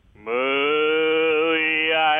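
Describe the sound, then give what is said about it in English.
A person imitates a cow with one long, loud "moo" as a singing voice exercise, held as a steady, unwavering tone for about two seconds, with no other sounds. “Moo. Okay, you don't know your vowels, but that's okay.”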